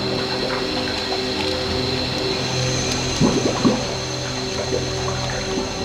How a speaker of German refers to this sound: Er hat unser Boot gerammt. Ach, der gemeine Kerl. Mein Boot ist kaputt. Es geht unter.